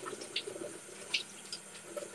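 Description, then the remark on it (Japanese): Water runs steadily from a tap with a broad hiss, while intermittent splashes and clinks of washing break through, including a few sharper bright splashes. “よし、いけたので、洗います。”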